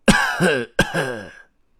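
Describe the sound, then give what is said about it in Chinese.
A man clears his throat twice in quick succession, each a loud, rasping burst that slides into a voiced hum, with a short pause between the two and no other speech, as a storyteller grandpa prepares to begin reciting his magic spell. “故事爷爷清了清嗓子，开始念起了他的魔法咒语。”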